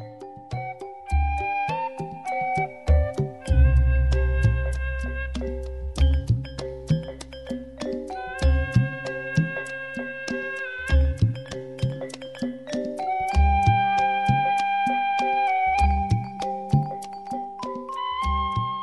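Sundanese Ketuk Tilu dance music plays steadily on rebab, large and small kendang drums, kecrek and gong, with sharp rhythmic kendang strokes, booming low gong tones and sustained melodic lines weaving over the beat, fairly loud, with no voices.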